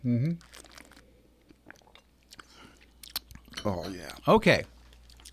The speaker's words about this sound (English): Let's take a little sip here and see where we're going with this bad boy.